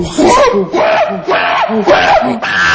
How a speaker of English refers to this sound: So play the monkey sound. Yes.